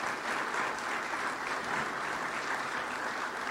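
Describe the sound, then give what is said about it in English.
Steady audience applause for a panel at an Oklahoma Cattlemen event on Oklahoma agriculture: a dense wash of many hands clapping at a constant level with no pauses, lasting the whole stretch. “Let's give our panel and Ron Hayes a big round of applause.”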